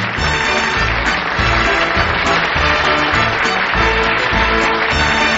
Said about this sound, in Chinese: 是的，乔治亚的选手大方地向前拥抱和亲吻俄罗斯的选手，而全场的观众也起立为他们鼓掌加油。